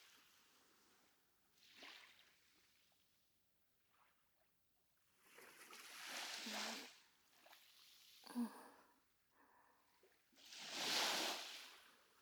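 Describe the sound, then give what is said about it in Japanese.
Small waves wash up on a beach in soft, uneven surges a few seconds apart, each rush fading into a gentle fizzing hiss as the water sinks into the sand. Fairly quiet, no voices. “耳をそば立てると、波しぶきが砂浜に染み込んでく音も聞こえてくる。シュワシュワって。”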